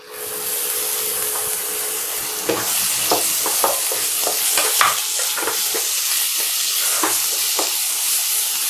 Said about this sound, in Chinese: 它的油可以用来炒这些配料，我们先把辣椒跟生姜还有大蒜放进锅里面爆炒。